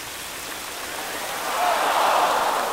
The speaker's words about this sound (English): Yeah, they turned a big fountain on and...